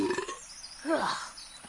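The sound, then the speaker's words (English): A single warbling, swooping bird call rings out, nasal and a little croaky, rising and bending in pitch over about a second, fairly loud against a quiet background. “Like that. Exotic, gross-faced, disgusto bird.”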